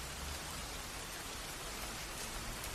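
rain falling

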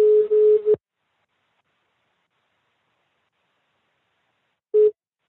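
telephone line tone

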